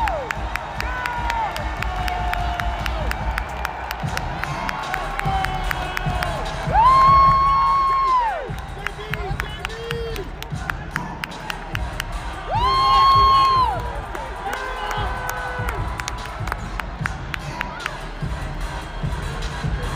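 An arena crowd in Boston before a Celtics game, the arena about half full, keeps up a steady, lively roar, with two louder swells of cheering, each carrying a sustained high tone like a drawn-out whoop, rising above the noise.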